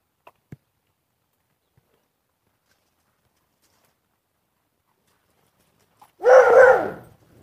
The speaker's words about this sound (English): Wow. A dog with much to say this morning.